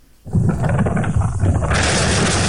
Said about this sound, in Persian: هنوز اندکی از ساعت 5 صبح سپری نشده که صدای انفجار مهیبی در دل کوههای قائمیه در حاشیه زاینده رود میپیچد. انفجار با نیروگاه برق اصفهان، قدیمی ترین نیروگاه برق این استان، ارتباط دارد.